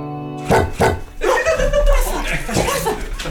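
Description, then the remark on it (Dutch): A dog gives two quick, loud barks, then keeps up a rough, noisy stretch of vocalizing that fills the rest of the moment. “Hoe heet jullie hond?”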